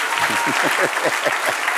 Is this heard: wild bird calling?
no